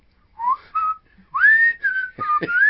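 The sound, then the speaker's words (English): A person whistles a short, bright melody, starting with two brief notes, then a long rising slide into sustained tones, with a couple of soft thumps near the end. No talking. “I want you to do a whole spin cycle whistling with him.”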